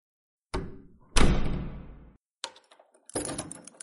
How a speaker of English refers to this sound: Alrighty, door locked? It is.